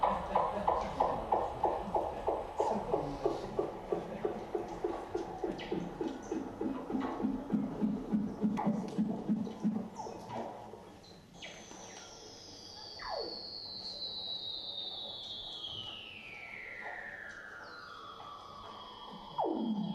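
Male Weddell seals calling underwater: a long, rapid pulsing trill gives way to a loud, eerie whistle gliding steadily downward in pitch, with faint clicks and chirps in the background.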